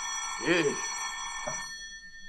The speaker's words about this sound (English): Phone's ringing. Yes, so it is. Well, don't you think you ought to answer it, Fatso? Never can tell. It might be business.